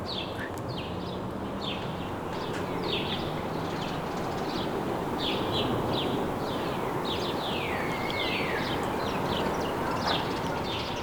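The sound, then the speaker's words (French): A dense chorus of myriad small birds chirping and trilling continuously in the greenery at the heart of a city, layered over a steady low rumble of city background noise. “Le bruit de fond de la ville. Thank you. et des myriades d'oiseaux.”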